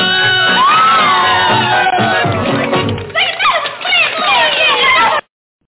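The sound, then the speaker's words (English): A large audience screams and cheers continuously at a singer's performance, a dense wall of high-pitched shrieks and whoops that stays loud for about five seconds before cutting off abruptly. “And everybody's just sitting there screaming at him like they always did, no matter where he sang.”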